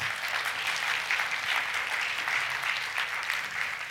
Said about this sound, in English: Oh, yeah, give yourself a hand clap.